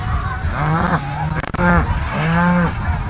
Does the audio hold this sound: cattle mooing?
yes